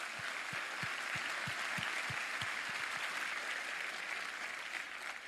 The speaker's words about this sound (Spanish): Un aplauso al Señor. A Él, a Él.